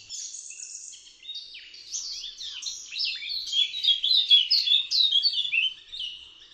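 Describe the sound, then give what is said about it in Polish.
Busy birdsong fills the air, a continuous stream of high, rapid chirps and trills from several birds, growing slightly louder and denser midway before easing off, with no voices present. “Nie wolno łamać gałęzi drzew, bo pięknie płynie z nich ptasi śpiew.”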